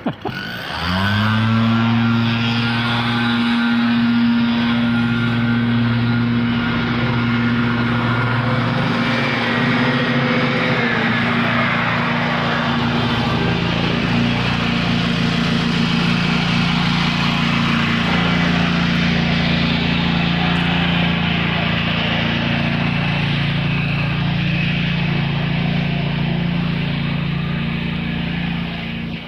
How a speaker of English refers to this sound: The mower is waiting for me to get past where he's using his lawnmower to huck up all of the leaves and stuff that got blown out into the street. Here it comes.